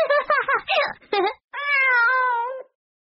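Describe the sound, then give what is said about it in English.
A cat lets out one drawn-out, clear meow that holds steady and slightly drops in pitch, preceded by a quick series of short, choppy vocal bursts, all fairly loud. “It's a cat.”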